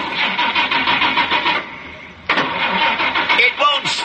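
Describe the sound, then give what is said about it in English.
A car engine cranks with rapid, rhythmic sputtering pulses, dies down briefly, then catches with a sudden loud roar and keeps running. “It's fun for the whole family with Wolfman Jack and his enchanted car”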